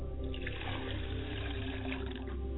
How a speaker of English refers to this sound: I pour libations to the west, and I say Ashe, libation.